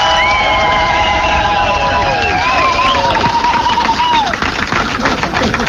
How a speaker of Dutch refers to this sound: Maar ze worden betaald met jullie applaus. Nog één keer het applaus voor onze vrijwilligers die dit mogelijk maken.